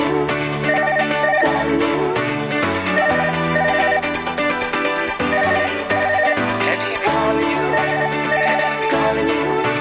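A telephone-style ring trills in short repeated bursts over a full, loud band playing steadily, the rings recurring every couple of seconds as part of the song's opening.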